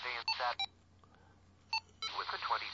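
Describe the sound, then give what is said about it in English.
Several short low electronic beeps from the function 3 key on the B receiver of a radio, signalling that both receivers are on, crisp, with brief spaced tones between stretches of a voice talking over faint background hum. “The low beep on the B receiver means that both of them are on.”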